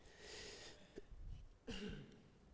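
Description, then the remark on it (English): A preacher with a slight cough coughs during a sermon, a short, quiet burst followed by a fuller, throaty cough, with no talking, just faint background hiss around them. “I've had this little cough today, so”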